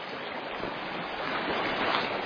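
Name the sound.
creek water flowing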